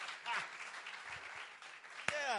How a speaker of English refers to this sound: Give him a clap. He's doing a great job. Come on. Good stuff.